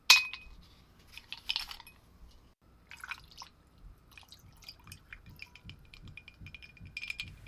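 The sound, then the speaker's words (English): A single bright clink of glasses touching in a toast rings out at the start, followed by soft liquid trickling and dripping sounds, with no talking. “I feel like I'm about to join her. Cheers, Darlene.”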